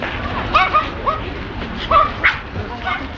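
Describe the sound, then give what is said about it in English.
Several dogs bark and yip in short, scattered bursts at a specialised off-leash dog park in Tokyo, Japan, against a busy outdoor background, with faint people's voices mixed in. “This specialised dog park is one of the few places in densely packed Tokyo where dogs are allowed to run free, off the leash.”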